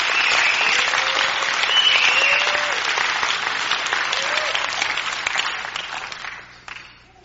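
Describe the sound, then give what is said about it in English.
An audience applauds with steady, dense hand clapping and scattered cheers, holding loud for several seconds before thinning out and fading at the end. “Clap your hands right there.”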